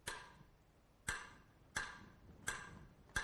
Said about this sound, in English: Listen to this example again with the metronome.